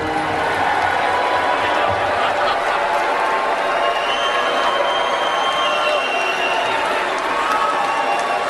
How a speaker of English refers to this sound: They're not booing, they're yelling, Mitch, Mitch, Mitch. I was surprised. You sure? I was surprised at the boos.